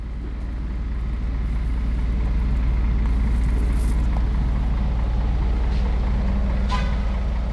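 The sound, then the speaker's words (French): A heavy truck engine idles loudly with a steady low rumble, joined by brief hissing bursts and a sharp metallic squeal near the end, as delivery trucks unload their cargo in the morning on Place Fernand Coq, a square. “Le matin, place Fernand Coq, les camions déchargent leur cargaison.”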